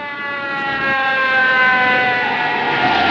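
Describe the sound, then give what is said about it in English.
An ambulance siren wails loudly and continuously from an ambulance carrying an injured man on a stretcher, a steady, slightly wavering tone rich in harmonics that holds for the whole stretch with no voices over it. “Later, in the back of an ambulance, Frank lies dazed on a stretcher, his forehead bound in a white bandage.”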